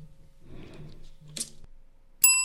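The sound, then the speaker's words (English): A single bright bell ding strikes sharply near the end and keeps ringing, loud, after a stretch of quiet low rumbling and a soft click. “I didn't have to use the bell at all, which is like an extra thing I had to think about in this, you know, this...”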